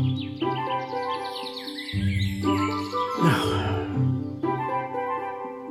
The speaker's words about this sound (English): For some reason, the birds in the jingle that we play at the beginning of the show are much more appropriate now that it's finally springtime.